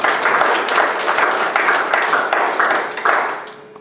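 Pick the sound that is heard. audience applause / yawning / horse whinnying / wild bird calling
audience applause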